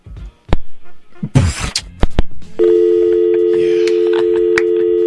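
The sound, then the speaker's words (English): A few sharp clicks and a brief rattle, like a phone handset being picked up to take an incoming call, then a steady, loud telephone tone holds continuously to the end. No one speaks. “We got a phone call.”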